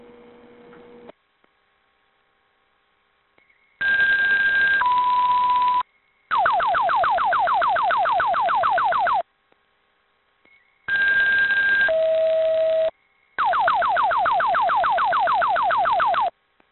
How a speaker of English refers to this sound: Headquarters, please sound the fire alarm for Lieutenant Mark Fire. Headquarters, receive that.